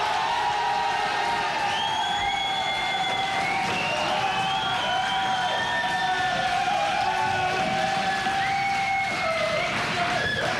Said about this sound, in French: Je vous demande une ovation, un tonnerre d'applaudissements pour Jean-Pierre Sauzet.